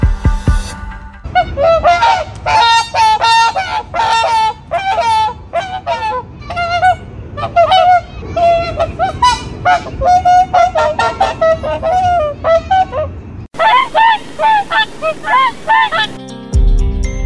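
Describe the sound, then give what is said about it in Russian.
Whooper swans wintering in Altai Krai, Russia honk loudly and repeatedly, a dense overlapping chorus of bugle-like calls from a flock, continuing almost without pause for the whole stretch. “Алтайский край – единственное место в России, где лебеди-кликуны зимуют в континентальных широтах.”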